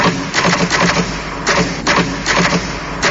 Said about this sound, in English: Funny, someone, told me the other day, weird thing about a typewriter, the top row of letters, the longest word you can write, is typewriter. I'll just show you, just...